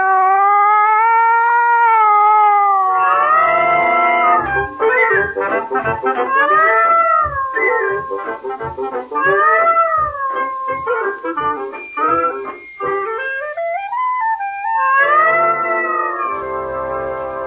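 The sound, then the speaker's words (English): In the Columbia Workshop radio play The Pussycat and the Expert Plumber by Arthur Miller, a human voice imitates a cat yowling on a back fence: loud, drawn-out cries with wavering, sliding pitch, breaking into choppy stuttering wails midway before long swooping howls return, with no other talk. “Now, like the old days, Tom, a good one. Like on the back fence, you remember?”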